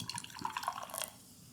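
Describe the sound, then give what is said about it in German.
Slightly cloudy, golden beer is poured into a glass, forming a good head of foam, a quick splashy gurgle lasting about a second before trailing off into quiet. No one speaks. “Okay, ich gieße das jetzt mal ein, wir gucken mal die Farbe.”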